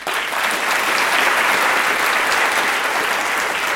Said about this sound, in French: Et ce soir, nous applaudissons